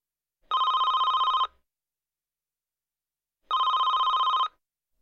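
A telephone rings twice, each burst lasting about a second with a rapid trilling bell, separated by a pause of silence. The ringing is loud, with no voices.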